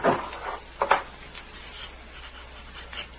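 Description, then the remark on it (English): A desk drawer scrapes open with a wooden rub, followed by a couple of sharp knocks and faint rummaging as someone searches it for ink, fairly quiet. “There'll be some of the other in this drawer.”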